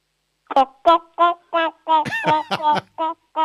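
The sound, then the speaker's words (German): A child's voice imitates a clucking hen as part of a sound game: about ten short, rhythmic clucks, fairly loud, quickening and tumbling together in the middle before settling back into evenly spaced bursts. “Ich hätte jetzt gern, dass du gackerst wie ein Huhn.”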